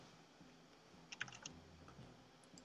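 A handful of faint, crisp keyboard clicks as a person types replies come in a brief irregular burst, then a couple more a moment later, over a low, quiet hum with no talking.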